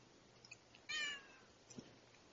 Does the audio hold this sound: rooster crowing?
no